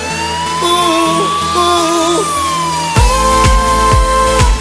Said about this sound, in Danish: Hør sirenerne kalder på mig i det fjerne.